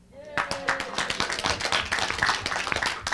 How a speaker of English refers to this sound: You know, as I go down the line, it doesn't have to get quieter and quieter on the applause here, you know.